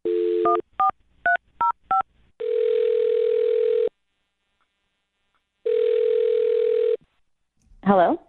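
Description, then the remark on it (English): A quick burst of touch-tone dialing beeps as a woman's phone number is dialed, then two long electronic ring tones separated by silence, after which a voice answers on the line. Clear, like a phone call heard through the handset. “Well, I'll dial her number right now, see if we can get her on the phone.”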